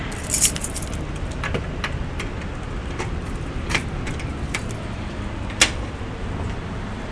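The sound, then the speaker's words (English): Keys jangle and clink in irregular bursts as someone looks for and finds their keys in the rain, sharp metallic jingles over a steady low rumble of road traffic, with no talking. “Where's my keys?”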